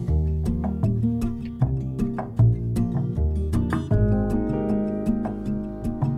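A mellow instrumental opening of a 2004 pop song: warm sustained chords over a steady, ticking beat with soft plucked accents, moderately loud, with no voice yet.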